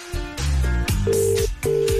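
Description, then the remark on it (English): A phone call ringing through the line: loud, steady electronic tones repeating in quick bursts with brief gaps between them, and no voices. “It's ringing.”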